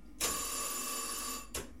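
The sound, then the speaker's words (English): The broken clock bell of a kitchen oven rings in one loud, continuous metallic burst lasting just over a second, with a bright rattling tone, then cuts off abruptly. No one speaks. “And the broken clock for the oven.”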